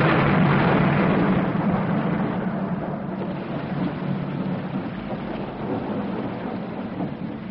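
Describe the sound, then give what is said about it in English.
A heavy, unbroken monsoon downpour at an airport in Ceylon roars steadily throughout, with a deep rumble of thunder rolling underneath that is strongest at the start and slowly eases. No voices. “We'll have to make a dash for the car if you will insist on arriving in the middle of a monsoon.”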